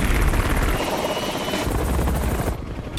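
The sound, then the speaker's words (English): A helicopter takes off from a helipad, its engine roaring loudly, its rotor beating in a steady rapid thump under a broad whine. It holds strong throughout, thinning briefly near the end. “They drive past the burning car, and Danny looks up towards the helipad. It's taking off.”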